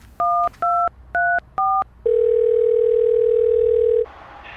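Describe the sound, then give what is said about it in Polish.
Four short, evenly spaced keypad beeps of a phone being dialed, followed by a single steady ringing tone that holds for about two seconds, then stops. No one speaks. “Zadzwoń po Piotrka.”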